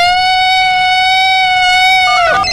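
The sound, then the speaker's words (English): A Bigfoot call sound effect played on the radio station Power 106.7: one loud, sustained high howl that holds a steady, reedy pitch for about two seconds, then breaks and slides downward at the end. “If we get everybody that's listening to the radio station right now to roll down the windows of their car, turn their radios up, and then I'm going to play the Bigfoot sound, and we'll wait and see if Bigfoot comes out anywhere.”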